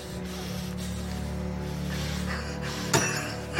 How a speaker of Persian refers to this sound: نعیم چکشو از روی زمین بر میداره. من همون نعیمم. با چکش میزنه تو شیشه.